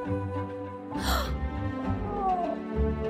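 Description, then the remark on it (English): A cat meows, a brief cry followed by a longer, drawn-out meow with a falling pitch, heard over a steady tonal background. “Like this one time, I delivered to an old lady whose cat had run away, so I helped her find it.”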